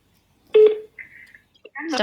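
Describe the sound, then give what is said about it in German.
A few electronic phone dialing tones sound in short bursts as a call is placed from a mobile phone with a new number, steady and clear, with a brief stretch of a voice mixed in and another voice starting near the end. “Ich weiß jetzt nicht, ob sie bei mir dran geht, weil ich habe ja eine neue Handynummer.”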